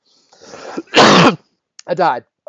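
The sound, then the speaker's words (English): A loud burst of harsh, hysterical coughing: a raspy lead-in, one forceful hacking cough, then a brief pause and a strained, voiced cough or gasp to finish. “Here's me coughing hysterically from a couple of podcasts.”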